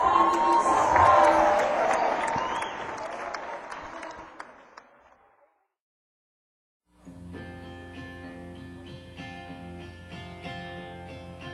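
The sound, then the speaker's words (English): A crowd applauds and cheers loudly for several seconds, the clapping fading out to a brief silence before music begins. “Can we all put our hands together and say a huge clap in the chair?”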